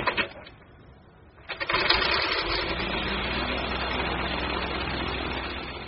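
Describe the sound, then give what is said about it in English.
The small engine of a 33-foot-wide ultralight motorized glider, its wings painted to look like monarch butterfly wings, sputters briefly, falls quiet, then roars up into a loud, steady buzzing drone that holds without letup to the end. No voices. “Obsession number two, not coincidentally, is a 33-foot-wide ultralight airplane with wings painted to look exactly like the wings of a giant monarch butterfly.”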